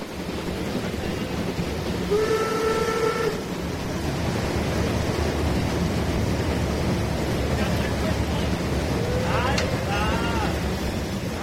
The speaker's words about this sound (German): Blenden wir noch einmal für einen Moment zurück und setzen uns in einen Dampfzug, der gerade aus Maischoss durch die letzten drei Tunnel nach Altena fährt.